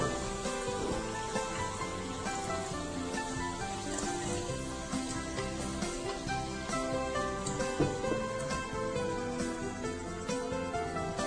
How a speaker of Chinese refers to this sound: 好，这样大概就可以了，好就可以了，大概炸个三分钟，好三分钟就可以了。那稍微把它翻面一下，好每一个角度，因为我们是切滚刀块，所以说这个每一个角度呢都要稍微有炸到哈。